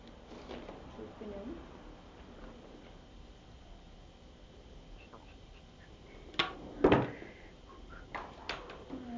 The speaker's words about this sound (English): That middle drawer over there keeps coming out all the time.